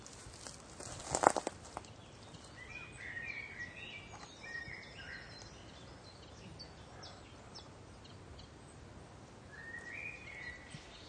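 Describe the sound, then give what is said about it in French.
A warbler sings faintly, a few brief twittering phrases separated by pauses over quiet outdoor background, with a short rustling knock near the start. “Oui, écoutez. Encore une fauvette.”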